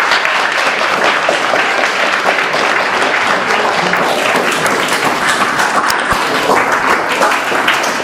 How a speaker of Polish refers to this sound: Dziękujemy, brawo dla naszego gościa.